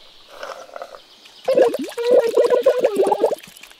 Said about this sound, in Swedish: Jag vet! Milkshake! Det kan man sörpla i sig med sugrör. Åh, så gott.